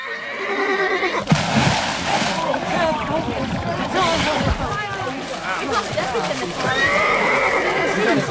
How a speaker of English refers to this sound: Get down the pond! Adam Grislin's horse flung itself in!